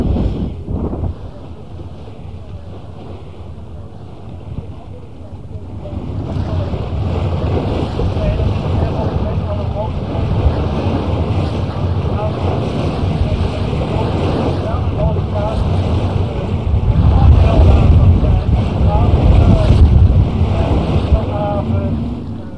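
A boat motors steadily through harbour water behind the Centraal Station toward the Shell tower, past the harbour service boat, its low engine rumble joined by wind buffeting the microphone and washing water, growing louder and fuller after the first few seconds.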